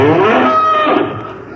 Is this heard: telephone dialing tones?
no